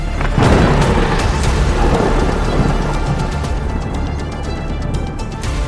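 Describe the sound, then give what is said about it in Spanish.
Deep thunder rumbles steadily and loudly through the whole stretch of a violent storm with flashing lightning, with a hiss of heavy rain over it and sharp crackling bursts scattered throughout. No one speaks. “Desde la profundidad de los cielos, los relámpagos destellan y los truenos rugen.”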